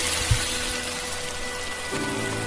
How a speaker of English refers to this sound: All right, now let's deglaze this bitch with this beer.